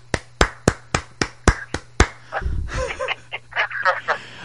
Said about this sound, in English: Yeah. This is me applauding you.